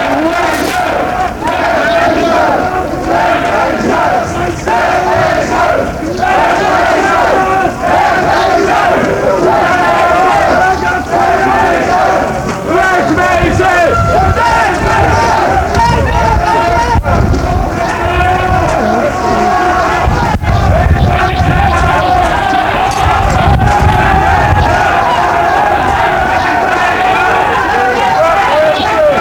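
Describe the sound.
A large crowd of demonstrators shouts continuously at Mayor Fantijn for about half a minute, a loud, dense roar of many overlapping voices with rising yells and chanting bursts, steady in volume throughout.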